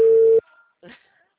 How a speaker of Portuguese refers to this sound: Tá tocando. Agora eu escuto tocar. Olha lá o seu telefone.